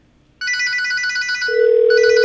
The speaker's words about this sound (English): Now we're going to call my cell number here. And listen carefully to what happens. Well, my phone should ring for one thing.